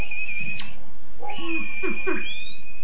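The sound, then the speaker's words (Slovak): A male grouse, aggressive at the start of its display season, tries to imitate people's high whistle, holding a thin, steady piping tone, interrupted by three or four short, low, hoarse calls. No one speaks. “No tak ten kohútik sa vás snaží napodobňovať tým vysokým pískotom.”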